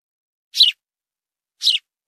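Two short, bright sparrow chirps about a second apart, each a quick high-pitched burst, heard alone against complete silence.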